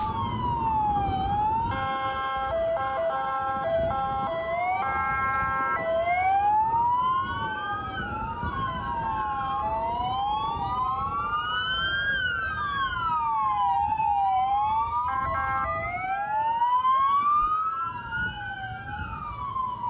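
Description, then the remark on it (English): Several police sirens of LA County Sheriff's deputies moving in one afternoon wail and yelp at once, their rising and falling tones overlapping loudly and continuously over a low rumble of traffic, with no talking. “This is the LA County Sheriff's Office finally moving in this afternoon.”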